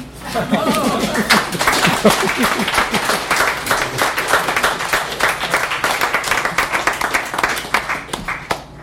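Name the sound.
audience applause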